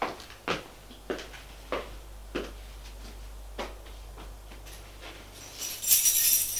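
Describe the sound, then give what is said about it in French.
A series of sharp metallic clicks and clacks, like a key working a lock, ends in a brighter jingle of keys as an apartment door is unlatched, fairly quiet. “Et va ouvrir la porte de son appartement.”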